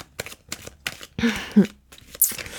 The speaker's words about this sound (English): It's my turn to shuffle.